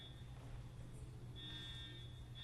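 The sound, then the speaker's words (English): A fire alarm buzzes with a steady, high-pitched continuous tone, faint at first, growing more prominent partway through over a low background hum, with no one speaking. “Can you all live with that for a minute? I'm quite sure it's a false alarm.”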